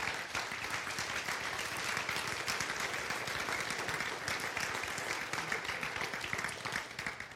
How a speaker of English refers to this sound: Would you stand with me and just give a big round of applause to Kristen and the whole team here?